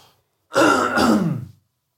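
A single loud throat clearing lasting about a second, a rough, gravelly rasp with a brief dip in the middle, followed by silence.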